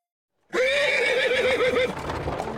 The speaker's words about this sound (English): A horse-drawn carriage is rattling down the road, and in it, a young man stares out the window. He's in America, far from his London home. The year is 1860, and all around him are other passengers, each of them lost in their own thoughts.